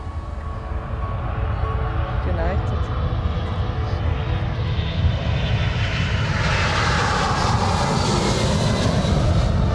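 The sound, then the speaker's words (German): A steady, loud airplane engine drone fills the whole stretch, a dense low rumble with a brighter whine swelling in the second half. “Wieder beeindruckend, dass so Flugzeuge fliegen können.”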